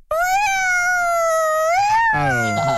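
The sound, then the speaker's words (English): An intern imitates a fire truck siren with a loud, sustained wailing vocal tone that swells upward in pitch, then breaks off as a lower, rougher vocal sound takes over at the end. “All right, try a fire truck,”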